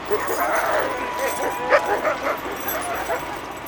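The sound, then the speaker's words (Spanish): A pack of dogs barks and yips excitedly in a continuous, overlapping clamor, with high whines mixed in. The noise is loud, peaking briefly partway through. “Pero los lobos encontraron algo.”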